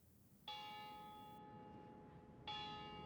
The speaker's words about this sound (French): À 8 heures précises, le lendemain matin, la cloche de la prison se fit entendre et le drap noir fut hissé.